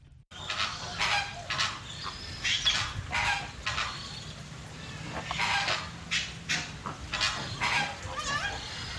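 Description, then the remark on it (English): A flock of flamingos honks and gabbles continuously in an enclosure at the World of Birds Wildlife Sanctuary, many overlapping calls in irregular bursts, steady, with no talking. “Yes, the flamingos are right there.”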